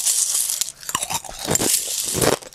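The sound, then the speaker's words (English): Cereal crunches loudly and steadily as someone chews, a run of crisp, crackling bites over about two and a half seconds with no talking. “But no matter what time of the day it was, I would always eat my favorite cereal.”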